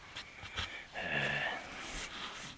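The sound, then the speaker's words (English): A dog pants and snorts in short, breathy bursts with a faint whiny edge, fairly quiet, with no one talking. “I had a little emergency with the dog.”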